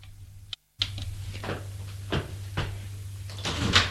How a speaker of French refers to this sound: Tout à coup, on a frappé à la porte. Qui cela peut-il bien être?